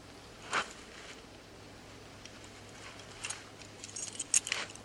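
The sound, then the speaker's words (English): Keys being pulled from a pocket: a soft rustling thump, then light, scattered metallic jingling and small clicks, fairly quiet, with no voices. “Get the keys out of my pocket.”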